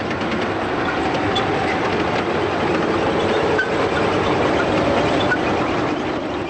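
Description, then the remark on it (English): The engine of a heavy amphibious tracked troop transport, an Amtrak of about 26 tons with corrugated side armor, drones loudly and steadily, a dense mechanical rumble with a faint turbocharger whine riding on top, unbroken for the whole stretch. “They have a distinctive whine of the engine and the turbocharger, and if you don't know what it is, you don't hear it.”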